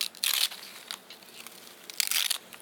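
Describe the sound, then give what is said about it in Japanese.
Crisp crunching of a dried sheet of Hyogo nori seaweed, two dense bursts of crackly, high-pitched crinkling about two seconds apart, with faint rustles between them and no voices. “兵庫のりはツヤがあり噛み応えがあって安心安全に仕上がった商品だよ。”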